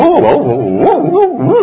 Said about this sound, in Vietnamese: Rồi thấy chó nào đến gần rồi cũng sủa hết, không cho thằng nào lại gần. Sợ nó sơi mất cái cục xương to của mình.